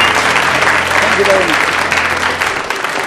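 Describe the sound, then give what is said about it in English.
An audience claps steadily in dense, continuous applause for four audience members who came up and held bottles, holding loud throughout, with a faint murmur of voices underneath. “A round of applause for the four gallant members of the audience who came and held a bottle there.”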